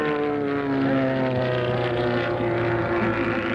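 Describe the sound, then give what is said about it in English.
Loud, steady droning of the small propeller engines of Formula V racing airplanes in an air race, with strong harmonic tones holding throughout as the aircraft pass by without any voices over them. “Formula V is probably the most exciting air racing going today.”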